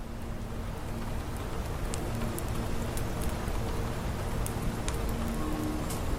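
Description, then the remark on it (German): Steady rain and snow pattering on a glass roof, a dense continuous hiss broken by scattered sharp drip taps, even in loudness throughout, with no voices. “Ihre Stimme, eine beruhigende Melodie, die sich mit dem Geräusch des Schnees und Regens auf dem Glasdach vermischte.”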